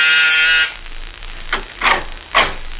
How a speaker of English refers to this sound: And I was just about to leave when my door buzzer sounded.